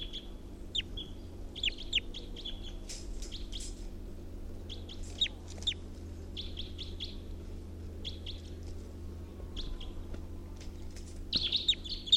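A recording of bird 348's call plays: bright, high-pitched chirps and calls come in quick clusters and trills over a steady low hum, with brief pauses between bursts and a busier flurry at the end.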